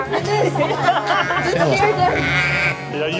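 A flock of sheep bleats continuously, many overlapping wavering calls forming a loud, dense chorus with a steady low hum underneath.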